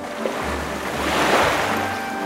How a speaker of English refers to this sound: The waves are crashing.